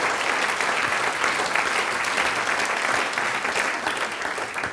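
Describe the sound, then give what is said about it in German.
Steady audience applause for the Lantschinger Manderleit, a men's singing group performing in Kumberg, a dense, loud wash of many hands clapping that holds evenly throughout and eases slightly at the end, with no voices standing out. “Einen großen Applaus für euch.”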